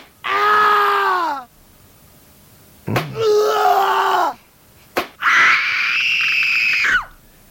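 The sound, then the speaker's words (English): Three loud, drawn-out human screams in a row with short silences between, the pitch sliding as each one goes on; sharp smacking hits come right before the second and third. “You start off screaming at one point and you'll end up at another.”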